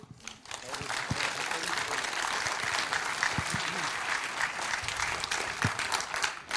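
An audience claps loudly and steadily, a dense wash of many hands filling the whole stretch without pause, with a faint murmur of voices underneath.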